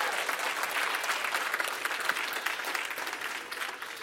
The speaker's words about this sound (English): Somebody say amen and give God a hand clap.